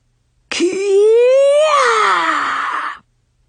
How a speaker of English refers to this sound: We were just finishing our warm-up exercises in gym class when we heard a bizarre scream coming from the hall.